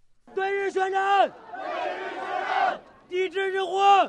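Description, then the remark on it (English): A crowd in Chinese cities shouts war cries in unison, calling for war with Japan after Japan's decision to buy disputed islands in the East China Sea: two long, loud chanted bursts separated by a rougher, sustained roar of many voices. “A war cry echoes across China's cities. Shouts for war with Japan.”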